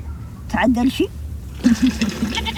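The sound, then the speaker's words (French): Two wavering, bleating calls from goats of a small herd in the desert among dunes, each lasting about half a second to a second, with a short pause between them, over a low, steady background rumble. “On a notre petit troupeau de chèvres, le vent frais, les dunes, l'air pur.”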